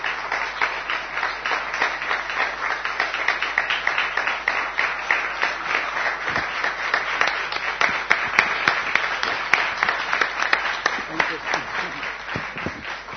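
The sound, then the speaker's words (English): Sustained audience applause for a speaker after a talk, many hands clapping in a dense, steady wash for over ten seconds without pause, with a few sharper claps standing out near the end. “The long clapping said it all.”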